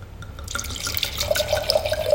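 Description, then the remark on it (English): Tenuta and Fossa rosé, an old vine rosé from Liguria, glugs and splashes steadily into a glass, the liquid's pitch rising slightly as the glass fills, with no voices over it. “Can I pour you another glass of wine?”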